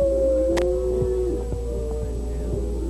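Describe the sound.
A single long, wailing coyote howl, given as a signal by an Indian captor, holds a steady high pitch for most of the moment, then slides slightly downward over a low background hum.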